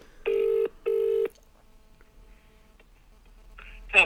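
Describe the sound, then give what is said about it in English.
A telephone ringback tone on an outgoing call: two quick, clear buzzing pulses of the ring close together, then a quiet pause over a faint line hiss, ending with a brief burst of sound. “It's ringing.”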